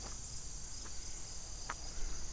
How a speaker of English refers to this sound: Is that just a bug making clicky-click sounds? I don't know.